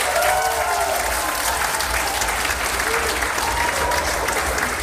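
crowd, audience applause

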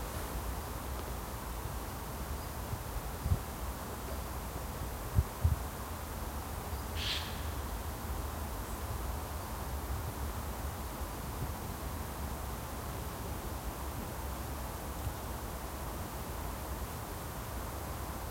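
nature, sea surf rushing

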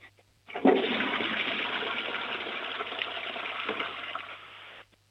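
household object, toilet flush

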